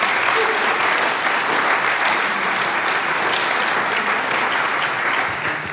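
Steady audience applause for a guest being introduced, a dense wash of many hands clapping at an even, loud level throughout, easing off slightly at the very end, with no voices over it.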